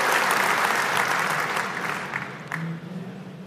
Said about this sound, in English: All right, give yourselves a round of applause. Good job. You can have a seat.